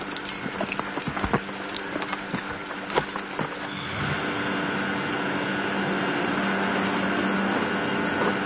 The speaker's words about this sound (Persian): قایق‌های موتوری بسی‌ها توی رودخونه گشت میزنن و قفاس‌ها رو توی آب پخش میکنن.